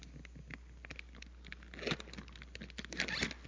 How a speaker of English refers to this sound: Now, I have a plate, and on this plate, I have numbered it from 1 to 10. And what I'm going to do is put it in this bag. This is a heavy-duty plastic bag. So we're going to zip it up.